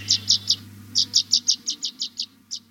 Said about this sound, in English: And chickadees was landing on that rib cage as I was walking down there and feeding, you know, so they were hungry.